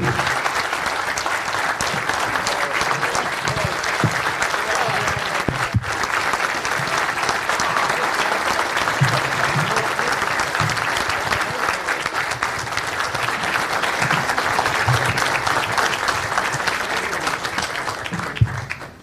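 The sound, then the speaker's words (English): An audience claps steadily for about nineteen seconds, a dense, even roar of many hands with no pauses and no voices rising above it. “Big round of applause for Misty, guys.”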